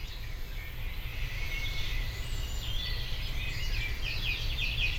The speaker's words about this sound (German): Da kannst du dann, wie bei diesen Jazzem oder wie die heißen, bei diesen Musikprogrammen, kannst du eine Aufnahme machen von dem Vogel, den du gerade hörst. Und da ist er.